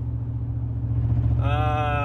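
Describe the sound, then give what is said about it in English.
A muscle car engine idles with a deep, steady low rumble, fairly loud, and a brighter tonal whine rises over it near the end. “Listen to that baby purr! Woo! I'm back in my muscle car studio.”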